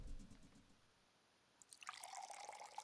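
Water runs and splashes into a container as someone gets some water, starting after a short low rumble and continuing steadily with a bright, bubbling pour; no voices.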